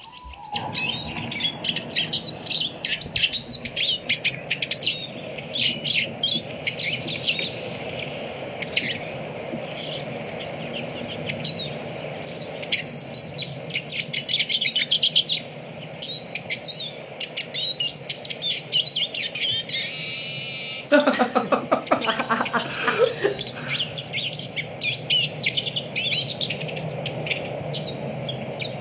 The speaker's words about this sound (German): Dann hören wir jetzt einmal den Erlenzeisig uns an.